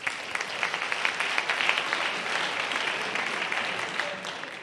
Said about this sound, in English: I have a couple reminders and invitations, but first I'd like us all to give the debaters and ourselves a round of applause.